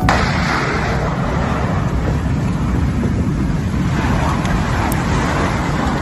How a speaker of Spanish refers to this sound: Así sonaba a las 12:01, hora peninsular, una hora menos en Canarias, la lava cayendo al mar. Ha sido 10 días después de la erupción, cuando una de las coladas de magma ha alcanzado la costa de Tazacorte.